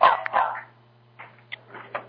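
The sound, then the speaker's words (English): A dog barks in a loud burst, followed by a few softer, shorter barks and yips after a brief pause, with a faint steady hum underneath. “I just want to unmute because my dog was barking.”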